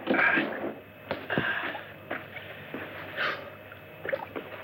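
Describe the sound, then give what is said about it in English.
Oars being lifted out of a rowboat: a few hollow wooden knocks and clunks at irregular intervals over lapping, sloshing water, moderately loud, with no one speaking. “You go ahead and start unloading. I'll take the oars up.”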